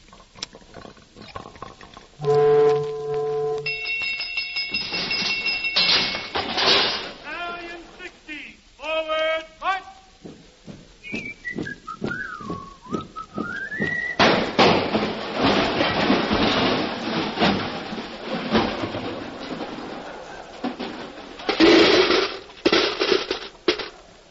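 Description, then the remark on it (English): A pinball machine made from a landing ship is played after a nickel is put in: electronic chimes and bell tones ring out, then a warbling whistle swoops down and back up, followed by a long stretch of loud rattling, clacking mechanical noise with bursts of clatter. “A pinball machine made from a landing ship?”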